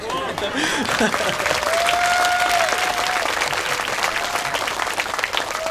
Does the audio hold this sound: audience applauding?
yes